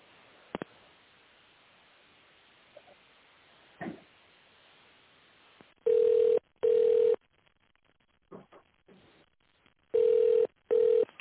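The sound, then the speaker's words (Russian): A telephone ringback tone sounds while waiting on the line for the secretary after calling the company Obis Energomontazh: steady mid-pitched beeps in pairs, repeated twice, after a stretch of faint line noise with a few soft clicks. “Пожалуйста, наберите внутренний номер сотрудника в тоновом режиме или дождитесь ответа секретаря.”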